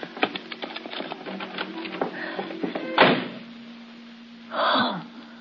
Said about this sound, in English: Please. Please. Give me time to get inside and unlock the door. And I'll be safe.